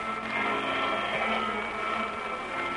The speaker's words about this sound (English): Run the vacuum.